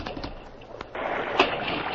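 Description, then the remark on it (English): A stallion plunges into a creek in a Lone Ranger story: a sudden heavy splash breaks in, followed by a sustained rush of churning, sloshing water with one sharper surge partway through. “That stallion jumped right into the creek.”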